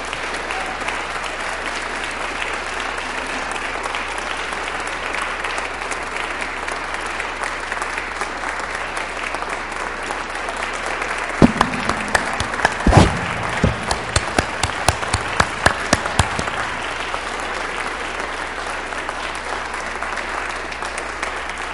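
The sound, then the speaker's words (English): An audience applauds steadily after a lecture, a dense wash of many hands clapping, with a burst of louder, sharper individual claps standing out partway through. “the Mayan communities with whom I work clap for the audience.”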